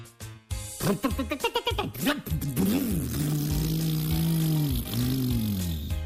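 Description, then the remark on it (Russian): A voice mimics a car engine trying to start: a few choppy sputtering bursts, then a longer, wavering drone that sags and dies away without catching. “Что такое? Опять не заводится.”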